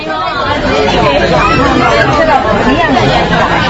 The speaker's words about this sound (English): Customers crowd a long glass display counter at the Golden Palace jewelry store. Rangoon's Chinatown is in the heart of the city, where Chinese traders have long dominated the gold industry.